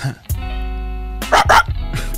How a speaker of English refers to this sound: Beautiful. Like that shit. That shit was fire. One more time. One more bark for the people.